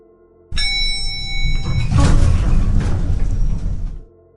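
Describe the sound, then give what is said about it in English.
A sliding elevator door opens on the 5th floor of a building with a sudden start, a brief ringing tone over it, then a steady rumbling whoosh for about three seconds before it stops abruptly. No one speaks. “The door opened on 5.”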